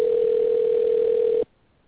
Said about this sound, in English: We're finna call up our guest, and we're not, he's not calling us back, so we're going to give him a call and see what. See, can we bring him up? You may hear the phone dialing in.